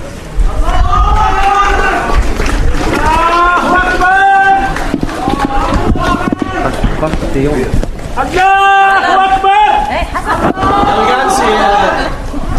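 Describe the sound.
A loud crowd of Palestinian protesters chants a slogan expressing hope that Gaza will survive, repeating the same sung phrase about every two to three seconds in a steady rhythm, with shouting voices filling the gaps.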